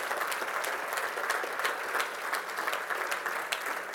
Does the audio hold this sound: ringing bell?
no